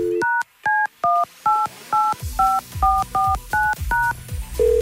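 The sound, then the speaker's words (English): A rapid sequence of about ten telephone keypad dialing tones, each a short two-pitch beep in quick even rhythm, clear, with a faint background hum rising partway through, as a phone call is dialed. “Let's make a phone call and see if we can get ourselves a winner.”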